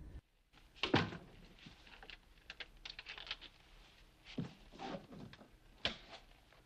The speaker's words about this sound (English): Having put the chain on the door and turned the lights out again